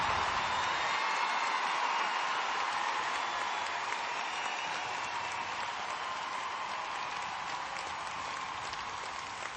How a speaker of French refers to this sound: Et je voudrais que vous applaudissiez très fort sur les scènes qui, tous les soirs, donnent à ce spectacle non seulement beaucoup de charme, mais aussi beaucoup d'émotion, les magnifiques cordes qui m'accompagnent.